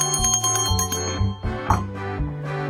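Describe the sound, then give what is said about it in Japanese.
Bright metallic bell tones ring out repeatedly over a steady low musical backdrop, each strike clear and close, like a shop counter call bell being tapped several times. “逆になんかこうお店だとこの音呼び鈴かなって思っちゃいそうですけどね。”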